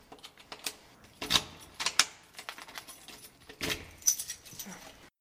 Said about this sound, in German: Jetzt muss ich versuchen, noch abzuschließen. So. Ich versuche gerade einen richtigen Schlüssel rauszusuchen.